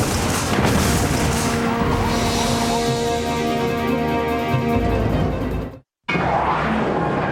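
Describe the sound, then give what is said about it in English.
A decrepit car crashes during a police chase: a loud, sustained roar of impact noise with grinding, metallic ringing tones, broken by a sudden moment of silence before the rumbling noise picks up again. “The collision was unbelievable.”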